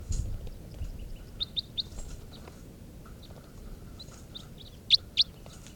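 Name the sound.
wild bird calls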